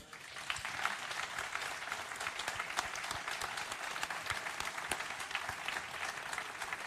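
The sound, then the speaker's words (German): Sustained audience applause for Ralf Minge, a dense wash of many hands clapping steadily at an even level for several seconds, with no voices standing out. “Ralf, du hörst den Beifall.”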